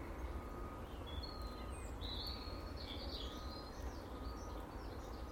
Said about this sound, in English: And the birds seem to be much more active. Maybe they do think it's spring.